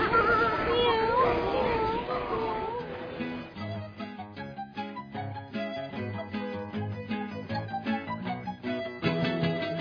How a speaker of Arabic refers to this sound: مياو مياو.